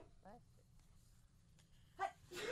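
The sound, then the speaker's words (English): A single loud sneeze: a short voiced intake followed by a sharp, hissy burst at the end, after a quiet stretch with a brief murmur of voice and low background hum. “Bless you. Thank you so much.”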